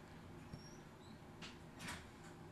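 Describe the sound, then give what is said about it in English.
A door slides or swings, with a couple of soft scraping, rattling bursts close together near the end, faint over a low background hum. “Don't slam my door. Is your shit opening by itself?”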